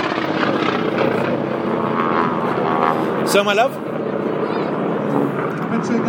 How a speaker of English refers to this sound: Wow! I wonder what airplane that was that made that noise.